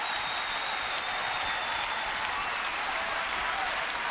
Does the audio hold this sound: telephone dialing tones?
no